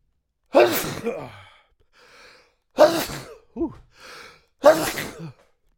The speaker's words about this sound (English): Oh, man, I had to sneeze. Sorry about that.